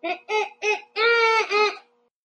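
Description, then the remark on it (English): A child's voice imitates a bald eagle call: three short, high, harmonic squeaks in quick succession, then a longer, drawn-out two-part squeal, fairly loud with no other sound. “It doesn't have to be perfect, but let me hear your best shot at an eagle noise.”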